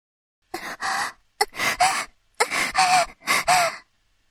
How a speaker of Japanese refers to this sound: 崩れ落ちそうな体を僕に委ね、荒い息遣いで必死に意識を保とうとしている。